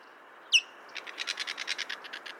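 A white-tailed kite, a bird of prey, calls: one sharp, high downslurred whistle, then a quick, steady run of about a dozen short chirping notes, clear with no talking.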